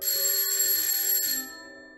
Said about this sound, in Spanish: De pronto, el timbre del museo suena.